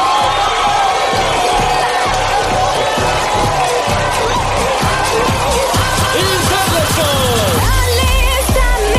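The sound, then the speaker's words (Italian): A large audience bursts into loud, sustained applause and cheering to welcome Miss Gilda Gray, with scattered whoops and shouts rising over the dense clapping for the whole stretch. “Signore e signori, accogliamo con un applauso l'incredibile Miss Gilda Gray.”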